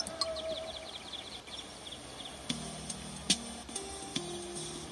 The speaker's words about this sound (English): It's 16:45. Yeah, excuse the clock every quarter hour.